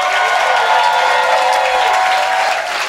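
audience applauding and cheering

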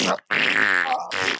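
fart noise

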